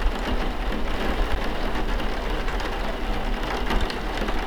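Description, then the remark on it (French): Heavy rain drums steadily on a house's tin roof, walls, windows and shutters during a storm, a dense, loud patter with a low rumble underneath and no letup across the few seconds. “La pluie qui mitraille les murs, les fenêtres, les volets, qui martèle le toit de tôle.”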